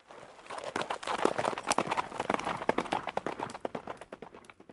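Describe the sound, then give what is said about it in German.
Horse hooves clip-clop in a quick, steady rhythm, a dense run of sharp knocks that continues throughout, with no voices, as of knights travelling by horse from one castle to another. “Womit waren die Ritter unterwegs? Genau, mit Pferden.”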